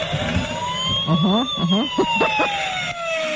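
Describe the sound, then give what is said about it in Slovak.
A toy fire truck siren wails with a thin, electronic tone, gliding slowly up and down, set off at three in the night in a children's room by another toy pressing on it. Short warbling, voice-like bursts jump in partway through, all fairly loud. “Áno, presne, to je hračkárske hasičské auto.”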